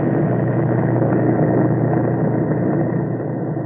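B-29 bomber engines roar in a loud, steady, low drone that holds constant without a break, with no voices over it, as the bombers take off mid-afternoon from fields in China, headed for Japan.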